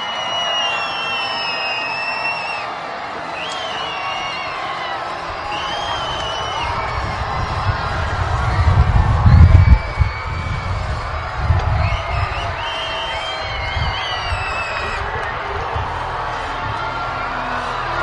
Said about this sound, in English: This crowd here has been partying today in West Michigan. On a beautiful day for baseball. And watching their White Caps come through.